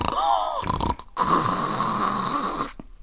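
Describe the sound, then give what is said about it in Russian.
Two loud, rasping snores: a short one, a brief pause, then a longer drawn-out snore. A voice seems to be imitating a wolf asleep under a bush, snoring in a frightful voice. “Видит, под кустом волк спит, страшным голосом храпит.”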